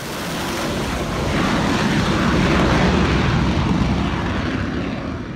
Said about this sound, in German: Zur Verfügung stehen dem französischen Präsidenten für einen Atomschlag Rafale-Kampfjets, die vom Flugzeugträger Charles de Gaulle oder ihren Basen in Frankreich starten könnten.